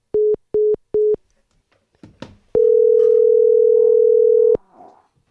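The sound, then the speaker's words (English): A telephone dial tone: three short, evenly spaced beeps, a brief gap with faint background noise, then one loud, steady tone held for about two seconds. “Oh, your phone. Second time in a row.”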